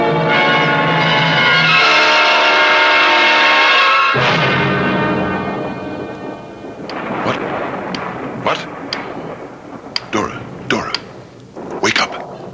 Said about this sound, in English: Listen. It's only the storm, dear.